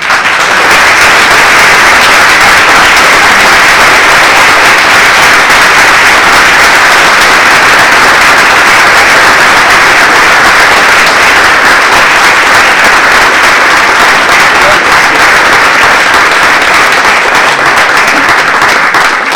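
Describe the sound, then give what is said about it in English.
A large audience applauds loudly and steadily, a dense wash of many hands clapping at once that holds at full strength for nearly twenty seconds without letting up. “They deserve your applause.”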